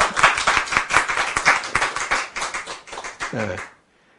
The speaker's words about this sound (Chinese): 赞不赞？ 赞！ 拍手。